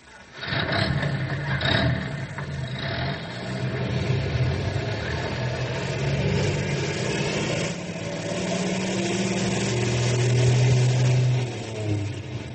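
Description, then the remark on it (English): A heavy rescue truck engine starts and rumbles steadily, its pitch climbing as it revs and pulls away, with a louder surge near the end. No one speaks. “you fellas drive the other rescue truck.”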